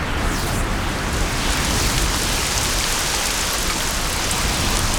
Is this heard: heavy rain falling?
yes